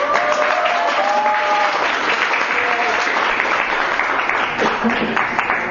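Sustained audience applause in a class for a guest lecturer, a dense, steady patter of many hands clapping at an even loudness for several seconds, with a few faint voices and whistle-like tones mixed in.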